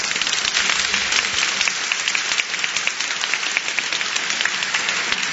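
Loud, sustained applause from a crowd welcoming a guest at an event with relics of Saint Gianna Beretta Molla, dense overlapping claps forming a steady roar that holds evenly for several seconds with no voices over it.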